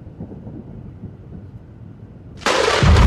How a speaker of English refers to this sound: Thunder crashed, and lightning struck with violent fury.